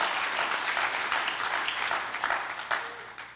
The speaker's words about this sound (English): Then on the left side, yes, clap for Jesus. Clap for the Lord God Almighty.